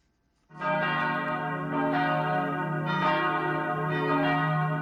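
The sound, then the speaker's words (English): Bells of the ancient Church of the Holy Sepulchre in Jerusalem's old city peal steadily at dawn on Palm Sunday, their rich, ringing tones overlapping with fresh strikes roughly every second, loud and sustained with no voices present. “Palm Sunday dawned in Jerusalem's old city to the sound of bells at the ancient Church of the Holy Sepulchre.”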